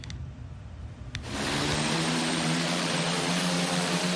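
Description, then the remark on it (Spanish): A delivery drone's propellers buzz into a loud, steady drone after a quieter opening second as it delivers a purchase to a home's door in Virginia, United States, the rotor whine holding a constant pitch over a wash of rushing air, with no one speaking. “recibe su compra directamente en la puerta de su casa, gracias a un vehículo aéreo no tripulado, más conocido como dron”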